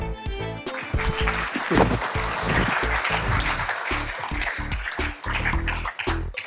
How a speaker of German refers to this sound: Ein besonderer Applaus auch für WSD, weil zum ersten Mal Sponsor dieses Events.